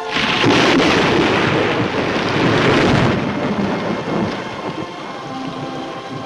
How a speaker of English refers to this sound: Another lightning bolt tears through the sky.